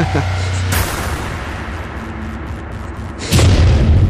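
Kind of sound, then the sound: sound effect, plane crash explosion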